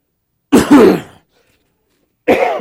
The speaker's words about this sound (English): Sorry about the cough, but those are just two singable songs.